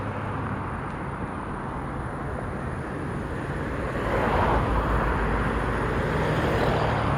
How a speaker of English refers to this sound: I want a big plane, you know. I don't want a fucking small-ass plane. I want one of those big planes that, you know, when they go over you, they blow you out because they're so damn big, you know.